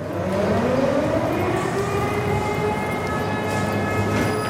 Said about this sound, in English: Every day, air raid sirens sound in Mykolaiv.